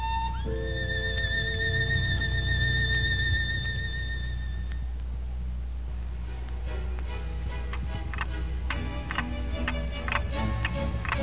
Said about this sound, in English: The large clock on the wall kept ticking away the precious moments.